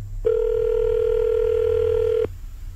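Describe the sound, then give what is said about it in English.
One steady electronic ringback tone from an outgoing phone call made by a radio host to a caller's wife sounds for about two seconds, clear and fairly loud over a low background hum, then cuts off. No one speaks. “I got his wife's phone number. I forgot to ask what her name was, but I'm going to call her right now and see if I can make this happen.”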